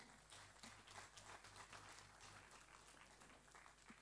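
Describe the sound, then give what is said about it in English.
A crowd applauds steadily, a dense wash of many hands clapping at once that holds a fairly even loudness for a few seconds with no voices over it. “Another clap offering.”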